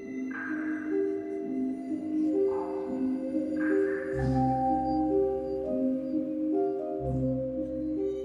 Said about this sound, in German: Mit Drähten ist dieser mit einzelnen Tropfsteinen in der Höhle verbunden. Jeder Tastenanschlag löst einen Mechanismus aus, der einen kleinen Gummihammer gegen einen ganz bestimmten Tropfstein schlagen lässt.